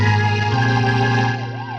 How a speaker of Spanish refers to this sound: El rumor de una alarma policíaca llega hasta ellos. Un auto se aproxima velozmente y se detiene frente a la puerta destrozada de la joyería.